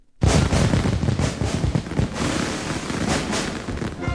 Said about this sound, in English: July 4th fireworks at the Washington Monument are a Washington tradition.